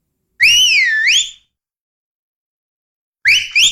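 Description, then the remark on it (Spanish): A loud, piercing human whistle swoops up and down in pitch for about a second from distant bush at dusk in Chemuyil, followed by silence, then another man answers with a sharp two-note whistle, ringing out clearly with no talking; the wordless whistles let the two men gauge the distance between them. “Entonces surge de la maleza, remoto, el fuerte chiflido”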